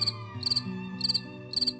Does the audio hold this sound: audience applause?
no